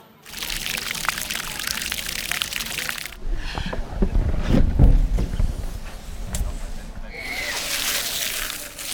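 Water splashes steadily from a fountain, a loud, continuous hiss that fades into a low, muffled rumble for a few seconds before the bright splashing returns.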